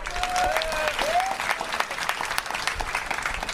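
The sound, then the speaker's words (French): A crowd claps steadily in a dense, sustained wash of applause for a church deanery that supports the training of seminarians, with a few high whistles rising over it in the first second or so; no one speaks. “Merci un pile applaudissement ba yo.”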